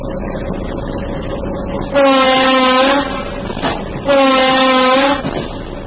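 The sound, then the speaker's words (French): Heard from the first car onboard, a Kinshasa urban train of the former Onatra rumbles steadily as it pulls away from Ndjili airport station bound for Kinshasa central station, and its horn sounds two long, loud, harmonic blasts, each about a second, separated by a short gap. “La locomotive vient juste de quitter la gare de l'aéroport d'Ndjili à destination de la gare centrale de Kinshasa.”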